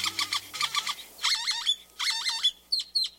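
great-tailed grackle calls

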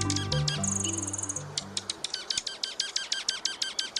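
junco calls

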